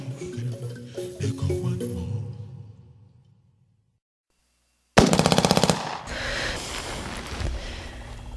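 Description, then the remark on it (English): Music fades into a brief silence, then a loud, sudden volley of gunshots fires in rapid succession for about a second in the middle of the night, followed by dense, sustained noise. “I woke up in the middle of the night to the sound of gunshots.”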